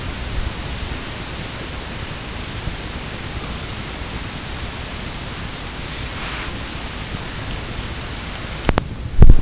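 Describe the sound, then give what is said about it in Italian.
A steady, hissing rush of wind blows without pause for the whole stretch, broad and even, with a couple of brief bumps right at the end. No one speaks. “Dice, adesso si sente anche il soffio del vento che ci aiuta in questo.”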